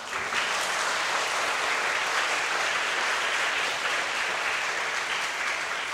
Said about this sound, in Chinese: 弟兄姊妹，我讲这样，你要不要给你们传道人一点掌声啊？